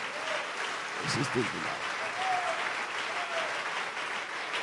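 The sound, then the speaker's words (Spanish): An audience applauds loudly for God in a steady, dense wash of clapping that holds at an even level throughout, with a few brief voices and whistles rising over it. “Un aplauso fuerte para nuestro Dios.”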